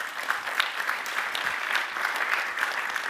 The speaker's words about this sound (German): Danke für die Frage und noch mehr danke für den Beifall, wenn ich das an alle anderen sagen darf.